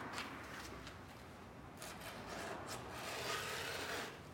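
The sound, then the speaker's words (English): A file rasps steadily along the edges of a skateboard deck pressed to a lap, filing the grip tape off in quick repeated strokes, fairly loud with no voices. “With the deck pressed to his lap, Ray files the tape off the edges.”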